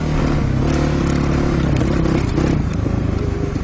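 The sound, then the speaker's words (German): Motorcycles race in a rally over sand dunes outside Riyadh, Saudi Arabia, with a continuous, loud engine roar and shifting revving tones, joined by gritty scraping and crackling noise throughout, with no one speaking. “Bleiben die Raserei auf Riads Stadtautobahnen oder Motorradrallys außerhalb der Stadt über die Sanddünen.”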